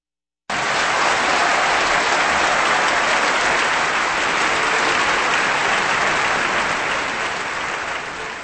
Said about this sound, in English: And that applause for the Berlin Philharmonic Orchestra and conductor Herbert von Karajan in the Delirium Waltz from Joseph Strauss here on Kansas Public Radio.